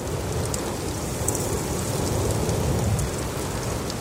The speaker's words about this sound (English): When I turned on that recorder and heard the sound of space open up for the first time, it's magical. The effect of breeze in the canopy of the redwoods.